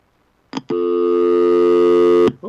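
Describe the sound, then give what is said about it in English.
A telephone busy signal after a dropped call: a brief click, then a loud, steady electronic line tone lasting about a second and a half before cutting off abruptly, followed by another click. “We lost that call.”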